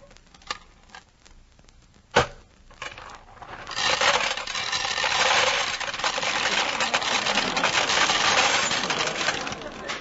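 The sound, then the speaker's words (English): Pennies drop into a peanut vending machine with a few light metallic clinks and one sharp clunk, followed by a long, steady rattling churn of the mechanism that runs to the end. “Two pennies, two peanuts. This machine must be... Excuse me, bud. Can I get at that peanut machine?”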